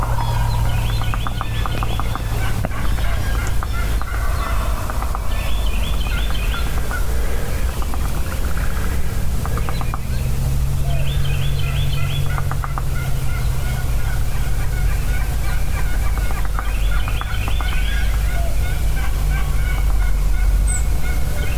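A wild turkey gobbler gobbles over on Heartbreak Ridge, rattling bursts repeating every few seconds over a steady low outdoor rumble, with faint bird chirps in the background and no one talking.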